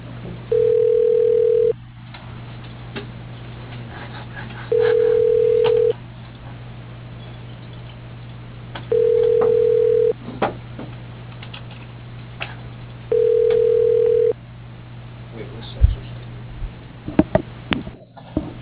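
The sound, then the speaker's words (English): A telephone ringback tone plays during a call transfer: four steady, evenly spaced buzzing rings over a faint constant hum, followed by a few sharp clicks near the end. “Your call is being transferred.”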